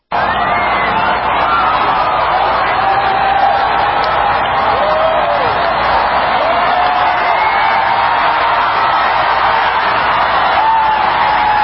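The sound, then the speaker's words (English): A massive crowd at a total solar eclipse watch party at the Indianapolis Motor Speedway cheers and shouts in a steady, loud roar as the eclipse begins, with scattered whoops and voices rising above the din throughout. “A massive crowd gathered at a watch party in the Indianapolis Motor Speedway. They cheer as the eclipse begins.”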